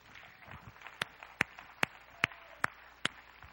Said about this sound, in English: Come on and clap your hands to the Lord one more time tonight.